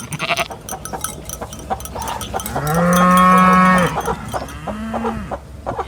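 A cow gives a long, loud, low moo lasting about a second, followed by a shorter moo, amid a busy background of other farm animals and clanking cowbells. No one speaks.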